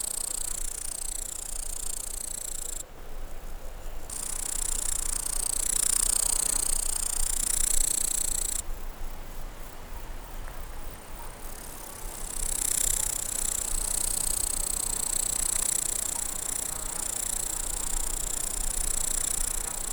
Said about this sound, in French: Et là, à près de 1600 mètres d'altitude, la prairie électrisée par le son des sauterelles criquet.